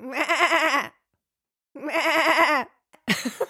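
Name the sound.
goat bleating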